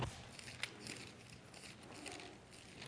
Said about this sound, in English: I like to try to make noise when we're turning pages, because you know how you're listening to a tape and there's a gap and you think, oh, should I turn it over now? No.